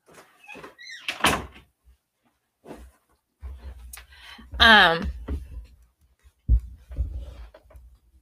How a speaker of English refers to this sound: Oh, let me close my door. Hold on.